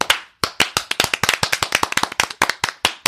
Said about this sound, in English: She was dying. And we all have to clap to bring her back to life. That's us.